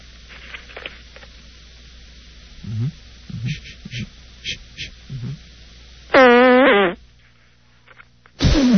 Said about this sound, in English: Did you guys hear that? Did we hear it? It's not a burp, it's not a fart, it's not too sweet, it's not too tart. It's 6 o'clock, it's time for a queef.